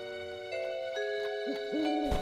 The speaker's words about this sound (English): I think it was just an owl or something. I don't think there are owls in these woods. Could have been the boys pretending to be owls.